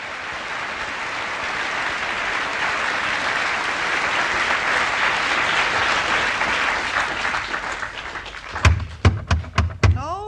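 A crowd applauds steadily, then the clapping fades as a series of about five sharp, loud knocks sound on a wooden door in quick succession.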